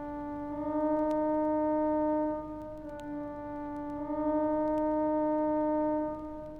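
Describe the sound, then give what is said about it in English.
A steady, reedy synthesized tone shifts by a chromatic semitone step of 75 milliOctaves, then another of 59 milliOctaves, each pitch held for a couple of seconds, loud and alone without any voices. “Here comes a chromatic one on 75 milliOctaves. And a chromatic one on 59 milliOctaves.”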